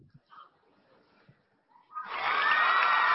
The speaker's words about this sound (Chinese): 下面掌声在哪里？